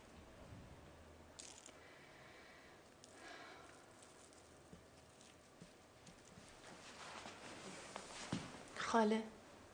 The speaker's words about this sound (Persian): چند تا سکه بندازم؟ عروس خانم چند تا سکه بندازم؟ دوتا.